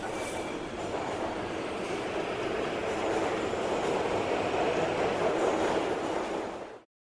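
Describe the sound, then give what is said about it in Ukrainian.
A metro train pulls away from a station after the doors close, the next station being Kontraktova Ploshcha; its steady rumbling roar and rattling wheels build slightly in loudness before cutting off abruptly. No one speaks. “Обережно, двері зачиняються. Наступна станція – Контрактова площа.”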